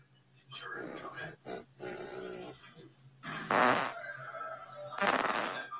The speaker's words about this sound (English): Hey babe. Hey baby. Guess my fart. So spot on.